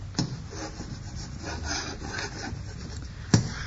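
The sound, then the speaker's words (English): Chalk scratches and rubs steadily across a blackboard as Captain Mannering puts the final touches to a diagram in the novelty rock emporium on the sea front at Warmington-on-Sea, in a dry, raspy rhythm framed by two sharp taps of the chalk at the start and end; no one speaks. “This evening, he is busy putting the final touches to a diagram on the blackboard.”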